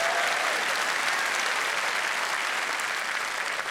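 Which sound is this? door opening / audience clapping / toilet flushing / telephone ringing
audience clapping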